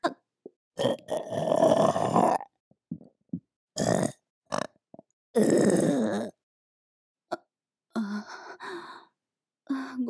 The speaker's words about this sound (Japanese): ごめんなさい。精液臭い、汚いゲップ出ちゃいました。すみません、お耳汚しを。